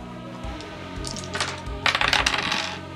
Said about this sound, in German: Haha, jetzt kommen wir zur Initiative. Was ihr macht, ist 2d10 würfeln.